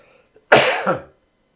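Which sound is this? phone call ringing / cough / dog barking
cough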